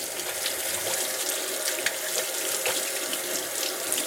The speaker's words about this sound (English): I'm going to wash my hands first real quick.